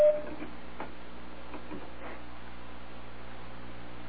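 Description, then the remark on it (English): A single short electronic beep sounds at the very start, then gives way to a steady low hum with faint, irregular ticking and clicks. Nobody speaks. “Did you just hear a beep?”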